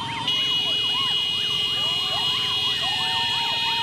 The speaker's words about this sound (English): It begins early in the morning. A crowd of motorcyclists pierce the air with loud whistles and blaring horns.